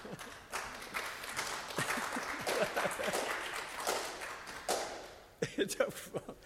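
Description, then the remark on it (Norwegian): One person claps their hands in a quick, uneven run of sharp slaps. The clapping continues steadily, pauses briefly, then ends with a few final claps, moderately loud. “Her en som klapper. Det lov å klappe.”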